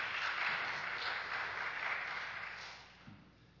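An audience claps together in a steady, dense patter of many hands that holds for a few seconds, then gradually thins and fades, with no voices over it.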